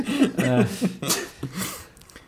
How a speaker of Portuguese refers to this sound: Santinho.